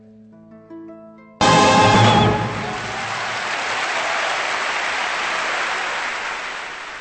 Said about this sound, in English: Applause for the Orchestra and Choir of St. Luke's, soprano Kathleen Battle, and guests and conductor Andre Previn with An American Christmas Festival here on Kansas Public Radio.